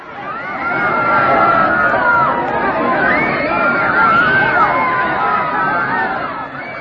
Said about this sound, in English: He then angrily sent forth his razor-sharp disc and severed the head of his enemy as he was attacking. When Shishupal was thus killed, a great roar and howl went up from the crowd.